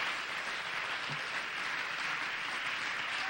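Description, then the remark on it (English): A crowd claps its hands in a steady, dense wash of applause, loud and continuous throughout, with no one speaking over it. “Let's just clap our hands for a moment as faith builds here.”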